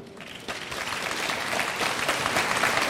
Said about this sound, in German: Wir machen das jetzt mal mit dem Applaus. Jetzt klatschen mal bitte nur die Westdeutschen.